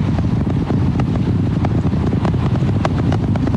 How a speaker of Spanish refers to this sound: Al bajar un poco la potencia, el cohete atraviesa esta zona crítica con mayor seguridad. Como vibraciones, eso creo que es lo que uno escucha, ¿no? Y los motores están aumentando su fuerza de nuevo para continuar el ascenso hacia el espacio.